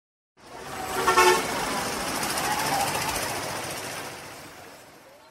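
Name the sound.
car horns honking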